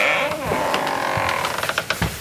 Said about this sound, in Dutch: Piepende deuren.